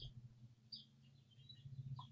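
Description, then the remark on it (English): Faint bird chirps come in a few short, high bursts, spaced irregularly over a steady low hum, heard outdoors in Utah through an open window on a nice day. “I'm hearing birds chirp in Utah.”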